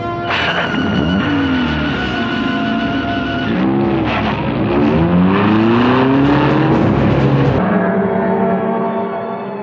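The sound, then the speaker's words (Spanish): A luxurious car's engine roars loudly and continuously, revving up and down through several accelerations as it speeds at full speed along one of the main avenues of Istanbul, with a steady rush of road noise and no voices. “El lujoso auto de Hasil se desliza a toda velocidad por una de las principales avenidas de Estambul.”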